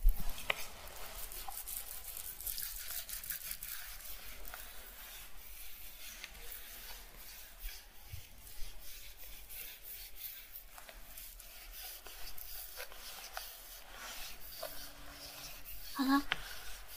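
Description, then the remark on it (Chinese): Soft scraping of a gua sha tool dragged across the skin of the shoulders and neck, repeated in steady rubbing strokes throughout, with a faint voice murmuring briefly near the end. “说你肩颈挺好，但是你湿气还挺重的，轻轻一刮就出好多沙呢。”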